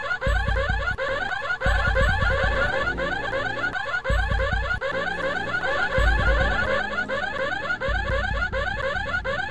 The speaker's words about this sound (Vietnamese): Tiếng chuông báo động vẫn vang vang, và bỗng nhiên nàng thấy nó thật giống tiếng chuông khủng khiếp trong các hành lang của nhà tù Nam Louisiana.